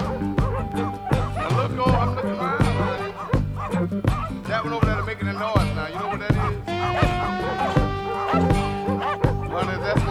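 A pack of dogs barks and yips nonstop, overlapping in a loud, dense chorus with high-pitched whines mixed in, filling the whole stretch.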